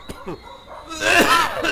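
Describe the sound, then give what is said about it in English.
A man coughs incessantly in a rapid, harsh series of bursts, fairly loud, the hacking growing stronger and raspier toward the end with no speech. “Right now, we join … and …, and he is coughing incessantly.”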